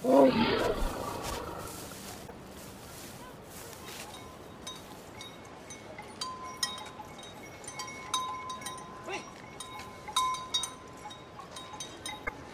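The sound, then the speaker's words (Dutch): A loud elephant trumpet and rumbling bursts out at the start, then fades into a steady outdoor hum scattered with light metallic clinks, like bells, with no one talking. “Olifanten zijn kuddedieren.”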